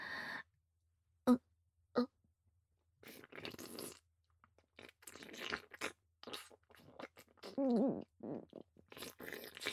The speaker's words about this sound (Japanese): その前にしっかり咀嚼しろと。わかりました。